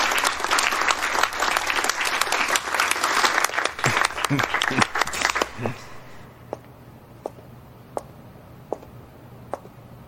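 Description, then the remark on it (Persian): A crowd applauds with loud, dense clapping for about five seconds, then it quickly thins out into a few scattered, isolated claps that trail off. “خواهش میکنم، نگرش دارین، تشویقش کنین.”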